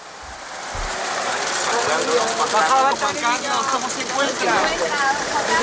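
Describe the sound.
The car of emeritus King Juan Carlos pulls up at the house of his friend Pedro Campos in Sanxenxo, Galicia, Spain, with a steady, mid-level engine hum and rumble, mixed with a wash of indistinct, overlapping voices throughout.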